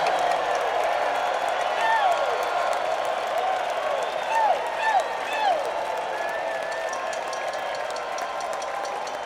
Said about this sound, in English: So I'm just going to say, could you please, for everybody in our lighting crew, from Bruno to all the people who set this up every night, give them a huge cheer. We love you guys, and we're going to join you.